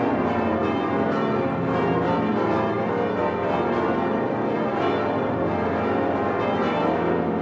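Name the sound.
cathedral bells ringing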